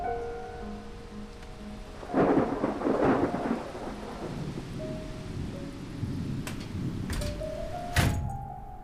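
A steady rain shower hisses throughout, swelling into a louder, rumbling burst early on, with a few sharp knocks and faint tonal hums over the wash of falling water. No one speaks.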